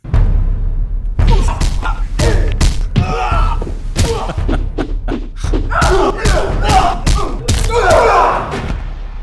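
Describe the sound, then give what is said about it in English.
A rapid flurry of heavy punch and kick impacts from a film trailer, sharp thuds and smacks landing in quick irregular bursts over a low rumbling bed, with strained grunts and shouts mixed between hits. “That's all just punches and kicks just, there.”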